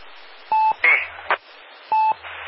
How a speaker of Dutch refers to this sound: Ik was niet bezig met de piepen van de brandalarm, die ging hier af. Ja, maar je zit toch niet bij de brandweer? Waarom gaat die piepen dan af? Je batterij leeg.